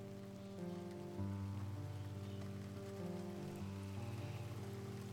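Steady rain falls throughout, a soft continuous patter with no break, mixed with gentle sustained music tones underneath. No one speaks.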